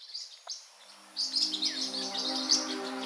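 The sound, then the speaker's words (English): Bright, high-pitched chirps from parrotlets, starting sparse and then becoming a busy, overlapping chatter of tweets, moderately loud, with a faint steady hum beneath. “whether the parrots who had the widest vocabulary in their baby days are the movers and shakers in parrotlet society today.”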